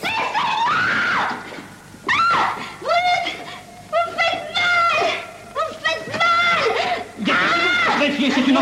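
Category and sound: human body sound, woman screaming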